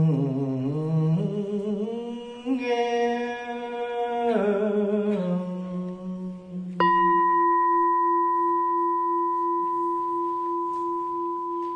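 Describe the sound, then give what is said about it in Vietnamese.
A voice chants a slow, wavering melody, then a mindfulness bell is struck once and rings on alone with a steady, pure, sustained tone that slowly fades. “Tiếng chuông huyền diệu đưa về nhất tâm.”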